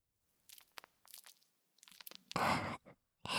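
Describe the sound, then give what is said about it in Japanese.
Soap foam being scooped up and lathered onto a penis: soft, wet crackling squishes in short bursts, then two louder, sustained foamy rubbing sounds near the end. No one speaks. “こうして泡を集めて、はい、おちんちんを泡にします。”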